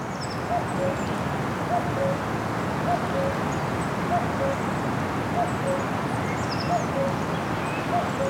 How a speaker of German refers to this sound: Aber dieses Gekuckuck würde mir auch ganz schön auf den Senkel gehen, auf die Dauer, ehrlich gesagt.